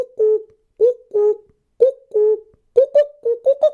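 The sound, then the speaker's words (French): A common cuckoo calls repeatedly, its two-note cuckoo phrases coming faster and more excitedly toward the end, clear with no other sounds around it. “Ah, notre ami le coucou qui s'énerve un peu et qui nous annonce les inforestières.”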